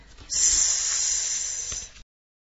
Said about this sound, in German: Arme bis an die Tülle strecken, wo der Wasserstrahl rausprasselt. Eine Fontäne sprüht durch den Duschraum wie von einem Springbrunnen.